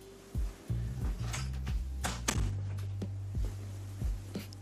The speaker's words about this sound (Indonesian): Oke, tunggu sebentar, mau tutup dulu pintu, panas.